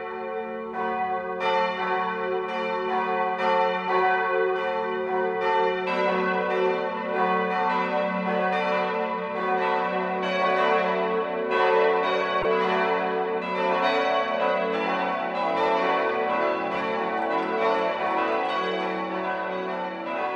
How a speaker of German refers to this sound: Es ist 12 Uhr. Das Mittagsläuten kommt heute aus der katholischen Pfarrkirche St. Bartholomäus in Deisenhofen.